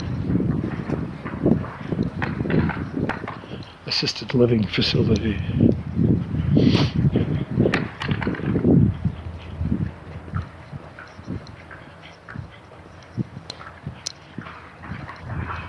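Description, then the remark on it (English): Roofers putting the roofing on a building hammer on the roof in quick, uneven bursts of sharp knocks, almost like a woodpecker, while a man talks over the steady tapping. “If you can't tell from the woodpecker sounds, that's these guys putting the roofing on this.”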